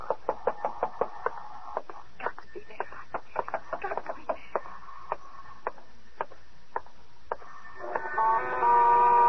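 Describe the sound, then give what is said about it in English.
A long run of sharp knocks on a door, rapid and irregular, clear, followed near the end by a steady buzzing tone. “I mean, if he answers it, he'll probably answer your knock, too.”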